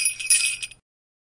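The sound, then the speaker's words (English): A short burst of bright, high-pitched jingling, like sleigh bells shaken in a few quick pulses for under a second, then silence, sounding as the cue to say a child's name for a naughty list. No voices. “Please say the name of the child after you hear the sleigh bells.”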